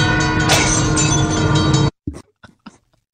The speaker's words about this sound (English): That's the freight train that takes out the one pane of glass.